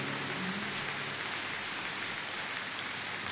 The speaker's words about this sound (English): Let's give the Lord a big round of applause for these people as they begin to go.